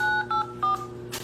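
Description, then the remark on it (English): A few quick beeps from a phone keypad as a PIN is entered during an automated EBT customer service phone call, distinct dual-tone presses one after another over a low electrical hum, ending with a brief soft burst of noise. “Enter your PIN.”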